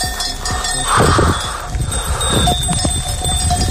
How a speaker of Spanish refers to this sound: Cuando anda, le siguen 1,000 ovejas. Es su rebaño.